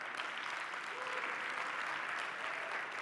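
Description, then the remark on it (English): Sustained applause from a large audience, a dense steady patter of clapping at even loudness throughout, with no voices standing out. “I just instant applause.”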